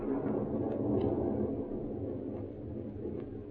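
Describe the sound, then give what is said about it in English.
A low, steady rumble of thunder from a storm rolls on without a break, swelling slightly early on before settling into a continuous dull roar, with no voices present. “That storm's going to break any minute now.”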